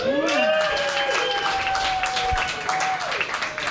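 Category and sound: crowd, polite audience applause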